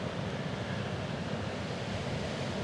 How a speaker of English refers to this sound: And you might even hear the ocean and the wind as we are in a public place.